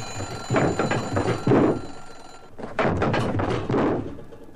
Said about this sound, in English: Right away, there's the alarm clock ringing or buzzing, and people mumbling or grumbling about not getting enough sleep and tumbling out of bed.